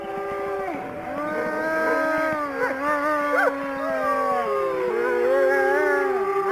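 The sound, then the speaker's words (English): Several wolves howl together in a sustained chorus at a wolf park in Battleground, Indiana, long wavering tones rising and falling over one another, steady in loudness with no talking. “we are traveling to a place in Indiana that is home to the most curious thing, wolves.”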